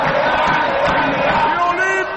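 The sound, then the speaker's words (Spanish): A stadium crowd of Olimpia football fans roars and cheers loudly after Brian Montenegro scores to put Olimpia 3-0 up, a dense, sustained wall of voices shouting together for the full stretch before easing slightly at the end. “Olimpia golea, salta el grito, blanqueado, escuche.”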